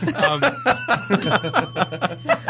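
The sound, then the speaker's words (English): A bright bell rings in a rapid run of short dings, loud, with chuckling and snickering mixed in over the ringing. “And he's like, where's the bell?”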